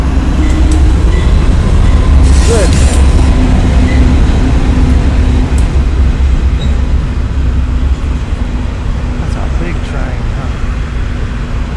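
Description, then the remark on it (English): A loud train rumbles steadily past, its wheels clattering on the rails in a continuous low roar, with a brief high squeal early on and a short spoken word over the noise. “Look at that train.”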